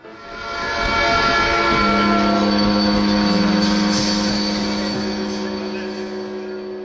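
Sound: train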